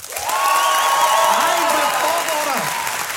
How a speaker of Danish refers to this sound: Alle jer, der klappede til Mick Øgendahl, nu hørte I lige, hvor højt det skreg.